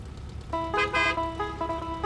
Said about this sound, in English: The Lexus pulls up.